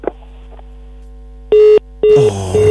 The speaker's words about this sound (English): Oh, I hope my phone lines are not acting funny. I hope no, you are trying. But this one, the call has hung. I don't know if it's raining out there and probably our lines have started getting messy.